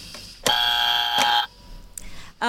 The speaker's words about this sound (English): Sorry, I was a bit late with the buzzer there, but you're well under the 15 seconds.